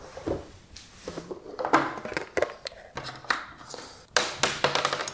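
Rummaging and clattering through small objects, with a string of sharp, irregular taps and clicks, followed by a quick rattling burst as a die is rolled across a hard surface.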